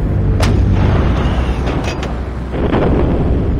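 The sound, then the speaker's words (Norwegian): Heavy artillery cannon fire booms repeatedly in the Oslofjord at Drøbak on the morning of 9 April, deep rumbling blasts with sharp cracks layered over a continuous low roar, loud throughout with no voices. “april og hørte en voldsom torden ute I Oslofjorden ved Drøbak?”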